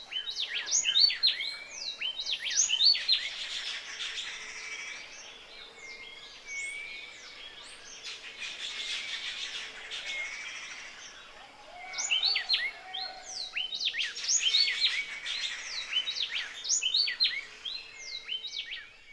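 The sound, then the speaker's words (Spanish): A happy wren sings a bright, whistled phrase over and over amid a busy chorus of other chirping birds, with louder bursts near the start and again toward the end. “Escuchemos el saltapared feliz con su silbido lindo. Nota cómo repite la misma frase varias veces.”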